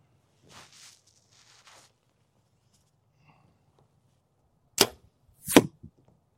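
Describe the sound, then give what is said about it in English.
Arrows strike a foam archery target with two sharp, loud thwacks less than a second apart, the arrow nearly hitting another arrow already in the target, preceded by faint soft rustling and whooshing. No one speaks. “You almost just took out your other arrow.”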